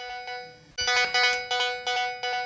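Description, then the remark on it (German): A hospital shock-room emergency mobile phone in Alzey, Germany, rings with a repeating electronic tone, pulsing in regular bursts about twice per second, clear, with no voices. “In der Hand hält er ein sogenanntes Schockraum-Handy. Das ist ein Notfalltelefon, dessen Nummer sämtliche Notärzte in der Region kennen.”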